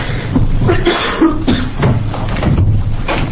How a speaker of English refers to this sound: Pardon my cough.